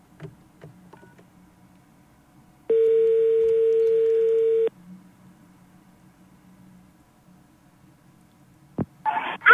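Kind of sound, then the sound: signal or alarm, telephone ringing tone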